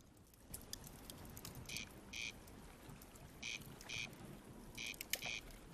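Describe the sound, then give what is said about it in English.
A corncrake calls in dry, rasping double notes, crex-crex, repeated three times at a steady pace in the evening at the river meadows near Clonmacnoise, Ireland, standing out clearly over a soft, continuous hiss of background noise. “That's a sound now that's really rare in these parts. That's a corncrake.”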